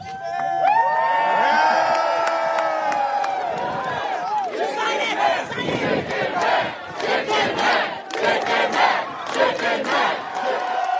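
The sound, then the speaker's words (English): A large crowd in Philadelphia cheers loudly for a man, with many overlapping voices whooping and shouting in rising and falling pitches, then settling into a dense, rowdy roar with bursts of clapping and yelling. “They're out there cheering for him.”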